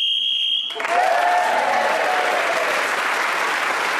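A steady, high-pitched game show whistle blows for under a second, signaling time up while Terry Wogan was speaking, then cuts straight into loud, sustained applause that carries on to the end.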